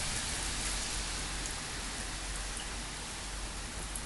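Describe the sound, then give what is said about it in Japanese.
Dense, steady rain patters on an umbrella overhead in Hikone, Japan, after 1 a.m., a continuous hiss of fine drops at an even loudness throughout, with no voices. “傘を叩く雨の音がしなくなったということは屋根の下に入ったということですね。”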